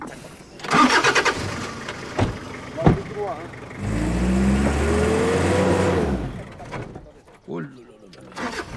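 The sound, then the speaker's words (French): A 4x4 car engine cranks and catches, then a few sharp knocks, followed by a steady rumbling rev lasting a couple of seconds that rises and settles, with voices nearby. “Là, c'est comme une voiture de la 4x4.”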